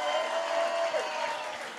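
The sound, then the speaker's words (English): An audience claps its hands steadily in a dense wash of applause, with scattered voices shouting and cheering through it, loud and sustained for the whole stretch. “Come on, take another 30 seconds, clap your hands and shout.”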